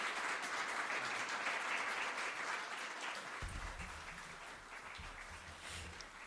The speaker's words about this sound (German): Ja, ein schöner langer Applaus